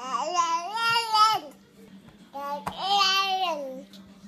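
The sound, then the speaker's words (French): A baby girl babbles in two drawn-out, sing-song vocal bursts with a short pause between them, clear, with no adult speech. “Et si bébé pouvait parler, elle vous dirait sûrement.”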